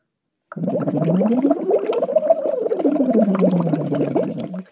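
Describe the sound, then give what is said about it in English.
A voice hums through a slightly wider-than-regular straw into a water bottle, steady bubbling gurgle carrying a tone that glides smoothly up and then back down a scale, continuous for about four seconds. “What I'm doing is I'm putting my straw into the water.”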